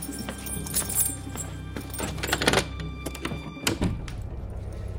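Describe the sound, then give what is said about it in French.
A door is pushed shut, ending in a solid, heavy thunk after a few lighter knocks and shuffles, with no one speaking. “Fermez la porte.”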